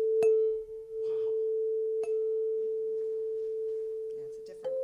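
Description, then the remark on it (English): A chime is struck twice, and its steady, pure mid-pitched tone rings on without fading, stepping slightly higher at the very end. Faint soft rustles sit underneath. “You've also got this thing that isn't a bell, that's a chime.”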